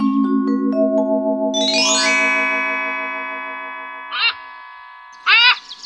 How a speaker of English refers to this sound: is that your little friend? The parrot?